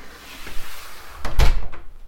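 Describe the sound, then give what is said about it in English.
A door swings shut: a quick latch click followed by a solid, low thump, then a short rattle fading into quiet room tone. No one speaks. “Well, we came in the back door and went downstairs to the basement and then took a right and stepped down, and we're in the garage now.”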